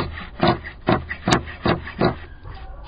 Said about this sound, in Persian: حاجی جلال مشغول قیچی زدن قالین دستباف زنان آقچه ای است.